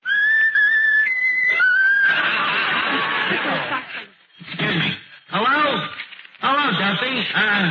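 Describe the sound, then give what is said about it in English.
A talking bird whistles its favourite tune, short and bright, for about two seconds, then the whistling gives way to rough, noisy chattering and voices talking. “How about whistling the tune that you like best of all?”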